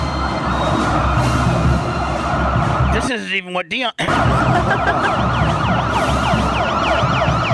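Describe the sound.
Wailing sirens from a police motorcade sweep up and down continuously over dense traffic noise, loud, with a brief spoken remark partway through.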